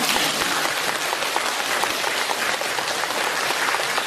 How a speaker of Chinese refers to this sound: 你看看呢，人不多，但是我听这个掌声就是几千人的掌声。